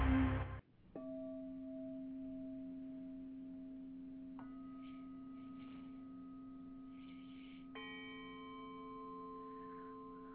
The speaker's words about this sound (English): That was a bit of a healing gong by our guest that will be on a bit later